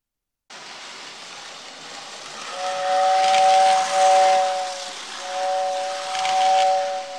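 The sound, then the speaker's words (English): A steam train whistle sounds in two long, loud blasts over a constant rushing hiss of escaping steam, with no voices present. “I've got a train.”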